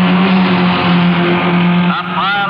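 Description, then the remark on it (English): A loud, continuous roar of a pack of several race car engines speeding past on a race track, with a steady droning pitch that breaks into rising, whining revs near the end. “Here comes the pack.”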